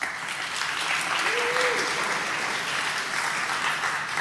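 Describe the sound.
Steady applause from an audience fills the whole stretch, a dense wash of many hands clapping at once, fairly loud and even throughout, with a faint voice briefly audible underneath.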